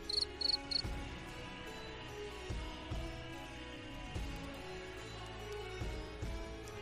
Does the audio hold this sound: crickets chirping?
yes